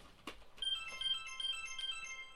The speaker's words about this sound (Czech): A máme tady telefonát.